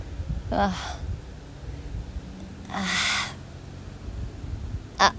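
A flying crow caws a few times with gaps between, harsh, raspy calls rising over a low outdoor rumble, the middle call the longest and loudest, a short final one at the end.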